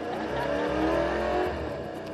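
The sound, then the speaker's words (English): A pre-recorded RS4 car engine, played in a car showroom for customers, revs hard, its throaty roar swelling to a peak mid-way and then easing slightly, loud with a steady low rumble and no voices. “so that is the actual sound of the RS4 that was pre-recorded for a customer to actually experience without the car actually being here or being test-driven.”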